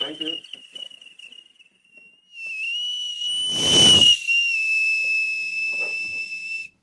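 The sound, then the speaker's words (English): A shrill, steady whistle blown to call dogs in one long, loud blast lasting several seconds, preceded by a fainter version of the same high tone, with a brief rush of noise midway and murmured voices at the start. “Maybe, let's see if a dog appears right now when I whistle this one.”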